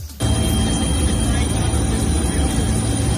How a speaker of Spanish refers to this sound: Es el sonido de los helicópteros que ayudan en las labores de extinción de este fuego que afecta, como te digo, a la provincia de Salamanca.